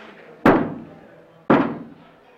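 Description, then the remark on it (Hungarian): Two loud knocks on a wooden table during a séance, spaced about a second apart, each a sharp thump with a short ringing decay, with no voices in between; two knocks mean yes to a question asked of the spirits. “Éreztem az erőt, hogy valamilyen erő mozgatja az asztalt. Ezek a lények ártani akarnak-e nekünk, akik meglátogatnak a Földön kívülről? Ha igen, koppancs 2-t, ha nem, koppancs 22-t.”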